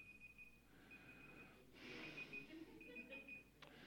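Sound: alarm clock ringing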